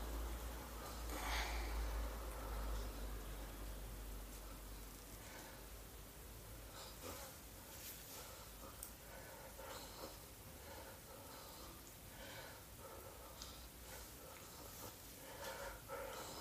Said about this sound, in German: ist schon wieder schwer am Atmen. Ey. Ich habe schon wieder Angst jede Sekunde, dass der mir hier vom Stuhl kippt bzw. vom Sofa fällt.